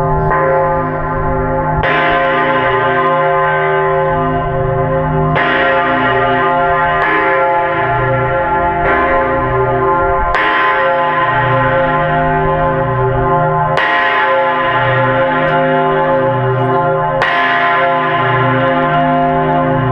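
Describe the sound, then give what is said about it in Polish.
A large bronze bell rings loudly and repeatedly, each strike followed by a long, shimmering resonance that overlaps the next in an irregular rhythm. Deep harmonic tones hum throughout with no voices. “Spod płaszcza nieznacznie wystaje końcówka serca dzwonu. Jest w kształcie walca zakończonego szpicem.”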